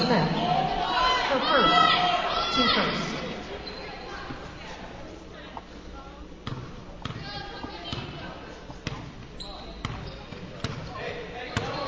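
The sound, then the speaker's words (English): A basketball is dribbled on a court during a lopsided women's game against the Panthers, its sharp bounces thumping in a steady, repeated rhythm over a murmuring crowd and indistinct voices, which are louder and busier at the start. “There's just a lot of dribbling and not much happening.”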